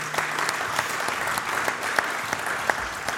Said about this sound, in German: Nochmal einen Applaus.